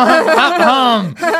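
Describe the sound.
A voice imitates a car accelerating: a loud, buzzy vocal rev that sweeps up in pitch, then drops away, followed by a short second burst.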